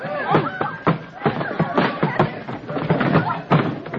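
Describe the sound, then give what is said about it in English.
A horse-drawn buggy pulled by a runaway horse swerves, tips over and crashes in the street, a run of heavy thuds and clattering impacts scattered over about four seconds, while several voices shout and clamor throughout. “Look out, he's swerving! Buggy's going over!”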